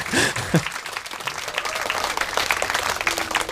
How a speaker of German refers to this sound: Ihr müsst übrigens nicht nur dann Applaus geben, wenn Toni was sagt. Ne? Das geht bei mir auch.